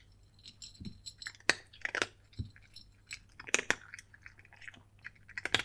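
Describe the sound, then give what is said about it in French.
Quiet crunching of small hard bits of dry kibble being chewed by a cat in a kitchen, with irregular sharp clicks and crackles over a faint steady hum, no voices present. “Tu as faim? Tiens, voilà des croquettes.”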